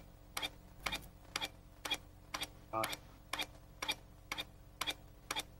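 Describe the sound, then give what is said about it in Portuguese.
A clock ticks steadily, roughly two crisp ticks per second, fairly quiet, with a brief muffled voice-like murmur partway through. “Lembras-te disto aqui? É um relógio?”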